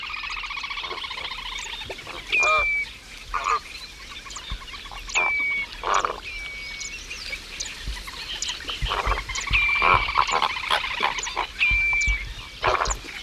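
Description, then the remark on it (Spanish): A flamingo with its head underwater grumbles in a steady series of harsh, nasal gabbling calls at dawn in the Doñana marshes, bursting irregularly for about thirteen seconds, while short, thin whistled 'piu piu' notes of a redshank recur every couple of seconds alongside. “Un flamenco con la cabeza metido en el agua, se oye como este que se queja.”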